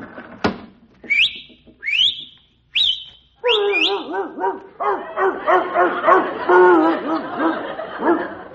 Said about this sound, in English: I'll just whistle out the window and tell my dog to bring in the morning paper.